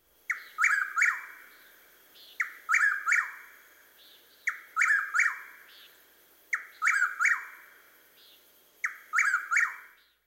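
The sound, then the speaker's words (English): Whip-poor-will and chuck-will's-widow songs: five loud, clear whistled phrases repeated at a steady pace about every two seconds, alone against a quiet background. The whip-poor-will repeats its phrases more quickly than the chuck-will's-widow. “Note how the whippoorwill repeats his phrases more quickly than the chuckwill's widow.”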